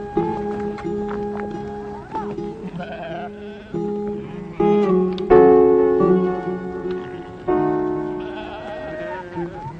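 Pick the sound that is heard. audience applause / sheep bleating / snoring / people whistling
sheep bleating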